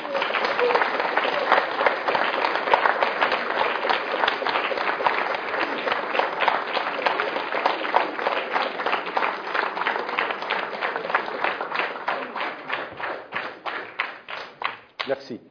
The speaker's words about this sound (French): Eh bien, ces applaudissements nourris, n'est-ce pas, prouvent que vous avez mené votre conférence de façon à ce que personne ne dorme, je n'ai vu personne dormir.